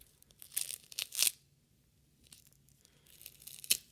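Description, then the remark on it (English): Adhesive tape being pulled off and torn for an ASMR recording, with crackly, sticky bursts in two clusters separated by a quiet pause, ending in a sharp rip. No voices. “Tape.”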